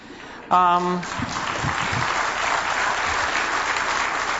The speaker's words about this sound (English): Are you clapping for the Canaanites or for me?